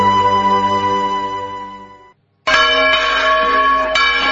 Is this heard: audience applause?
no